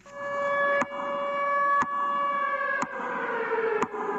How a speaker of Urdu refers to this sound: آج اس سائرن کی آواز ٹھیک اس وقت فضا میں گونجی جس وقت آج سے 30 سال قبل چرنوبل کے جوہری پلانٹ میں پہلا دھماکہ ہوا تھا.